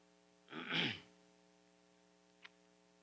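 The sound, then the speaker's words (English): A single sharp sneeze, a quick breathy intake followed by an explosive burst lasting about half a second, then quiet with a faint steady hum and one small click. “God bless you.”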